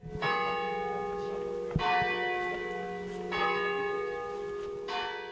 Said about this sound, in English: The sounds of bells peal from the Ermenville Church Tower throughout the day in this little town.